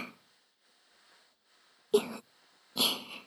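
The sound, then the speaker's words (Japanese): Two soft, airy exhales are breathed into the ear after a near-silent stretch: a short puff, then a longer, stronger breath, with no talking. “私の吐息、甘く感じますか？”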